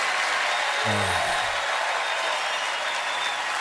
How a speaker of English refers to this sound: A totally undeserved round of applause, will you?